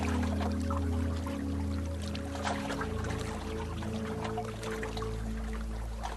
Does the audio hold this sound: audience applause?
no